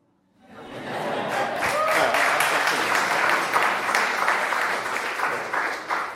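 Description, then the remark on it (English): An audience bursts into sustained applause with some cheering for the writer and critic John Berger, a dense wash of clapping that rises quickly and stays loud and steady for several seconds. “I mean, you can cheer for John Berger.”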